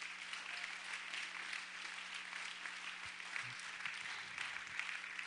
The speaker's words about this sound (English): Let's give them a hand clap of praise this morning.